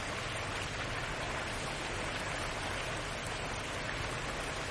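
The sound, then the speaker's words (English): Steady rain falls in an even, unbroken hiss, a dense wash of drops filling the scene at moderate volume with no voices and no change from start to finish. “Bask in the rain”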